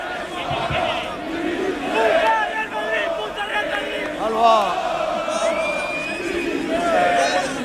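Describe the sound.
A large crowd of football fans at the Carlos Belmonte stadium chants together as the Real Madrid team bus arrives, many voices rising and falling in a loud, steady unison with scattered shouts over a constant roar.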